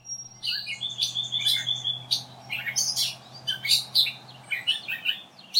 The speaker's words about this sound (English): That was a catbird with a series of calls mimicking other birds.